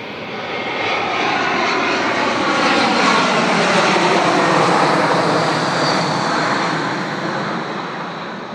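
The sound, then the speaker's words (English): A low-flying airplane roars overhead using the old runway number one of the Budapest airport, its loud, steady engine rumble swelling to a peak and then beginning to fade as it passes. No one speaks. “I have to say that we're going to unfortunately have a plane fly over, as they're using the old airport runway, runway number one.”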